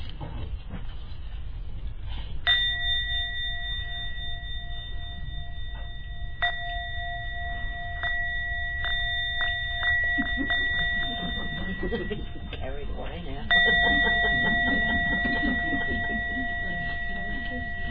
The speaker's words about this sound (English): Okay, there is a bell. Oh, I like bells. Let's see. I love bells.